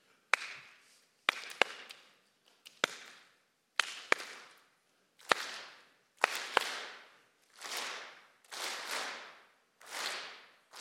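A crowd claps together in a simple repeating beat: sharp single claps at first, then fuller bursts of many hands roughly every second, steady and loud, with no talking.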